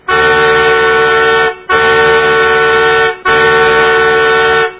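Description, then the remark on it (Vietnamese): A car horn blares three long, loud blasts in quick succession, each held for over a second with brief gaps between, sounding insistent and impatient. No voices are heard. A woman in an expensive Mercedes honks angrily at a stroller blocking her car outside a crowded post office. “Bà ta hét lên và nhấn vào cái còi xe đầy giận dữ.”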